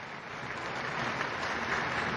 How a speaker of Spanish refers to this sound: Saludamos a la Chiquitunga con un aplauso y a todo el pueblo paraguayo.